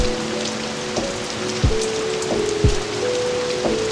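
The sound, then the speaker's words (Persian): Steady rain hisses across the whole clip, with a few heavier drops tapping now and then, while soft sustained musical tones hum faintly beneath it. “میشنوی داره بارون میباره، لعنت به این هوا که تو رو یادم میاره.”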